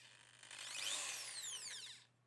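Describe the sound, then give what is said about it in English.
A small 10mm power drill, said to spin at 4,500 RPM, whirs for about two seconds, its whine climbing in pitch as it spins up, then winding down. It is heard alone and fairly quiet, with a faint steady hum beneath. “So that's a 10mm drill.”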